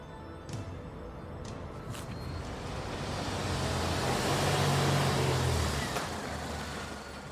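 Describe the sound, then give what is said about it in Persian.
A car engine rumbles, growing louder as the car rolls into an alley at night to park, holding a low idle, then easing off, with a few faint clicks early on and no voices. “شب حامد ماشینش رو توی کوچه پارک میکنه.”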